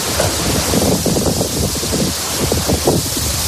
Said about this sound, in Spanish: Los daños provocados en las facultades por esa lluvia y ese viento que escuchamos ha dejado sin clase este lunes a los universitarios onubenses.